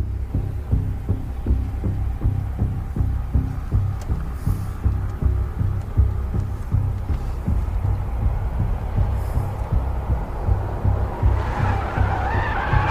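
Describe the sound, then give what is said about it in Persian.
A steady, throbbing engine rumble runs throughout as people sit in a car, and near the end a rising whoosh of tire and engine noise as another car drives toward them. No one speaks. “نعیم به ماشین محب که سمتشون میاد نگاه میکنه.”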